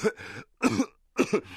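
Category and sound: human body sound, coughing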